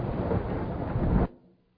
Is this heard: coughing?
no